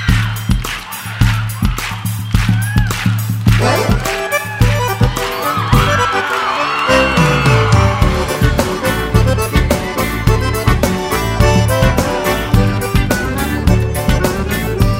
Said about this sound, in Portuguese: Nas palmas, todo mundo.